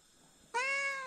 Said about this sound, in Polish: Dobrze tak sobie pogadać? Dobrze, jak się ma do kogo? Sfinksy to są bardzo rozgadane koty. Podobnie jak koty orientalne. I dla nich rozmowa z człowiekiem jest elementem codziennej komunikacji. Czego właśnie tutaj doświadczamy?